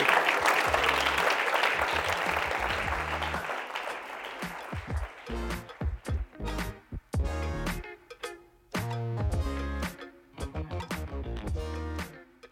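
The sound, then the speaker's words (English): An audience gives one more round of applause for a speaker after a talk on writing sermons, a dense, steady burst for about five seconds, then it thins out and fades as rhythmic music with a strong beat takes over. “One more hand clap.”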